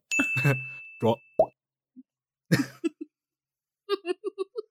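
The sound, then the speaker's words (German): A voice beatboxes dripping water droplets with mouth plops: a few scattered breathy, hissy pops, then a quick run of five bright, pitched drip sounds at the end. “Ich bin gerade legit, das ist so einer der Worte, die ich gerne verwende, darüber überrascht, wie gut dieser Tropfen gerade funktioniert hat.”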